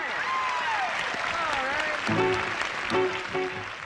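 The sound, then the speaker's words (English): A studio audience applauds Elvis with dense, steady clapping that fills the whole stretch, while scattered cheers and whoops rise above it, swelling briefly in the second half. “The studio audience applauds.”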